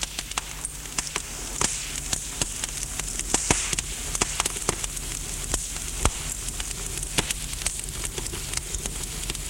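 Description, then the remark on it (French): A fire crackles steadily in a fireplace, with irregular sharp pops and snaps scattered over a soft, continuous hiss and low rumble; no voices are heard. “La soirée, après leur promenade en barque, ils sont tous deux assis à terre près de la cheminée. Le feu pétille.”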